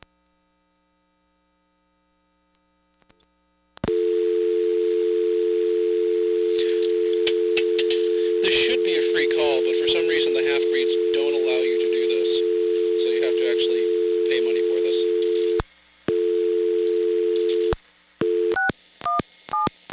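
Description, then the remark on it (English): A steady pay-phone dial tone hums continuously for about fourteen seconds, loud, with clattering handling noises over it, then cuts out before a few short touch-tone beeps. “Please hang up momentarily, listen for dial tone, deposit the required coin, and dial your call again.”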